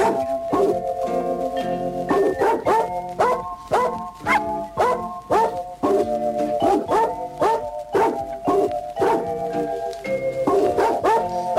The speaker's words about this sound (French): Vous croyez que c'est quel chien, quelle race? Des voilà, il y a un teckel et un dalmatien. Ouais, c'est ça. C'est bien ce que je me disais.